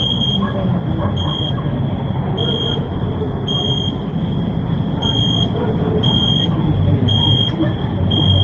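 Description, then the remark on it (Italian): Crickets chirp in a steady, high-pitched trill, with brighter pulses recurring about once a second over a low, constant rumble of background noise. “è arrivato il momento della nostra rubrica con i nostri amatissimi grilli”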